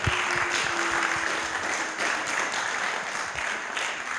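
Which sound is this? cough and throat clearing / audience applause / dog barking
audience applause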